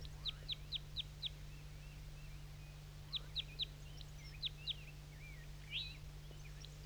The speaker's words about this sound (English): So recording the crossbill again.